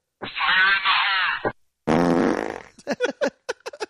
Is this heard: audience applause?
no